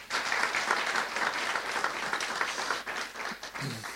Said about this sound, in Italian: Vogliamo fare un applauso.